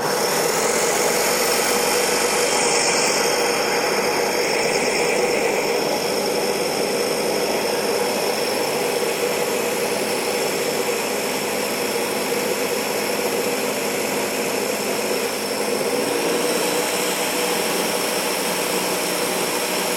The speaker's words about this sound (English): Let me get the lid to close it up. All right, and now we're ready to blend. All right, here we go.